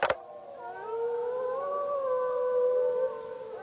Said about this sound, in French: Oh, j'adore ce hurlement. Oh, moi aussi, attends. Je vais leur répondre. Aouh ! Leur répondre, comme au téléphone, vous voulez dire ? Absolument. Quand ils hurlent, cela permet aux loups de dire à leurs copains de meute où ils se trouvent.